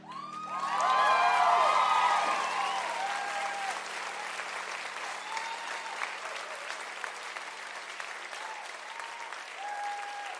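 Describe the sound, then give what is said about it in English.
An audience claps loudly and steadily, with excited cheers and whoops rising over the applause early on, then the dense clapping carries on evenly for several more seconds. “Please stop clapping.”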